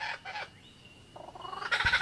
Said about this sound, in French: À l'ombre des eucalyptus, un oiseau répète son tour de chant. Un magnifique oiseau lyre, aussi appelé ménure superbe.